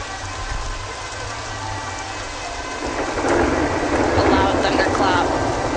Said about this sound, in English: Yet it's still raining.